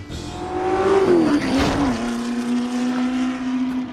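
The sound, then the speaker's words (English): A race car engine drones loudly and steadily at a test track in Dearborn, its pitch rising briefly and dipping as the car shifts, then holding a sustained roar, with no voices. “This car wants to go faster!”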